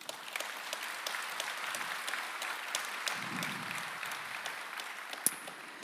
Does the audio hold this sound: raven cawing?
no